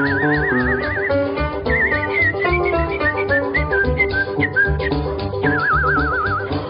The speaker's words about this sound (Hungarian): Tetszik tudni, mi az, amit én itt fütyülészek?